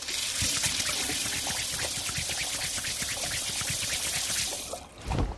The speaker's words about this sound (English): Here, let me wash my hands and my phone. Then I'll be right with you.